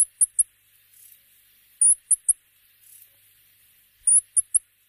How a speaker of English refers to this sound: Both birds have very high-pitched calls, which don't work well on radio. But here's a rock wren call just to give you a quick sense.